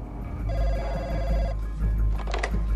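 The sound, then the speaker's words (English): A mobile phone on the leather-trimmed dashboard of a black saloon car rings with a single warbling electronic trill lasting about a second, clear, over a steady low engine rumble as the car drives at speed, followed by brief rustling. “He reaches for a mobile phone from the luxurious leather-trimmed dashboard.”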